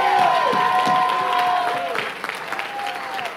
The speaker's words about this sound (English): If that sounds like you, give the Lord another hand clap one more time.